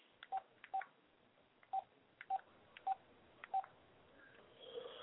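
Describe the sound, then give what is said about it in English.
Six touch-tone keypad beeps as a phone number is dialed to call a show from another phone, each short two-note tone preceded by a faint click, spaced unevenly, followed by a soft hiss and faint tone. “I am calling the show myself from another phone.”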